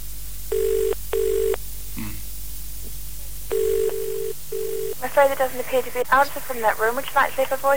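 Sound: telephone ringing tone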